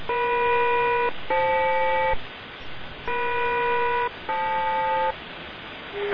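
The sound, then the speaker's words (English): An aircraft SELCAL selective calling tone, sent as a SELCAL check on code Echo Mike Foxtrot Lima for aircraft NATO 46, on its way to Lima Tango Alpha November: four steady, buzzy electronic tone bursts of about a second each, grouped in two pairs with a brief break between them, over radio hiss. “NATO 46 is on the way to Lima Tango Alpha November, requesting a cell call check, please, on Echo Mike Foxtrot Lima.”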